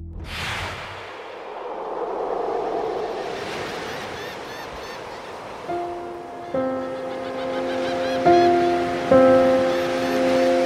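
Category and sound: nature, ocean waves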